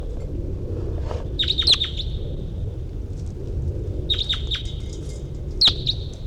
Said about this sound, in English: There. Wild birds around.